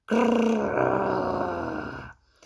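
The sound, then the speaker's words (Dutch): A voice imitates the roar of the monster Grijpgruwel as it shakes its head: one loud, rough, growling bellow held for about two seconds, forceful, then cutting off into near silence. “Dit schudt zijn kop en brult luid.”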